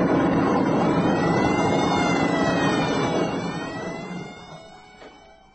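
Several alarms ring at once in a loud, dense, overlapping wail that holds steady before gradually fading away over the last couple of seconds, with no voices heard.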